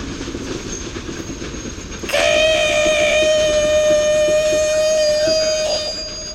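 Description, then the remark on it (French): A loud, sustained metallic squeal of train brakes as the train changes direction rises suddenly over a rumbling train, holding a steady high pitch with shrill overtones for several seconds before easing off. “Non, ce n'est pas le cri de Torpille cette fois-ci, mais le bruit des freins du train qui change de direction pour l'amener à l'école des dragons.”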